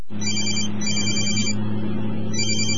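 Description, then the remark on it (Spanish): A cell phone ringtone trills in repeated electronic bursts, loud, over a steady low engine hum inside a car moving on the road while its driver is driving. “Ese llamado cerró el negocio de tu vida. No uses el celular cuando manejes.”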